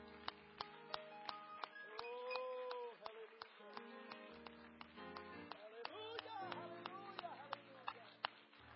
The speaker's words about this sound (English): Let's clap our hands to Him, shall we?